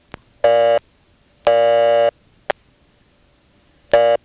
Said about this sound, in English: Nope, can't disconnect. I'm stuck on the busy signal.